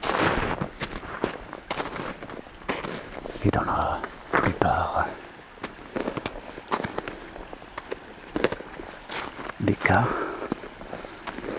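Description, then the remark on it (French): Steady footsteps crunch through a thick snow cover that easily bears the walker's weight in a beech wood, each step a crisp, dry burst in an unhurried rhythm, with a voice speaking briefly between some of the steps. “Cette neige porte facilement votre poids.”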